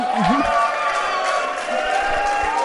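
A large crowd cheers and applauds in a dense, steady roar that holds for a few seconds, with scattered shouts and whistles rising above the wash of clapping.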